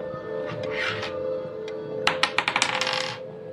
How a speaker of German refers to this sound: Würfel mal einen D10, bitte.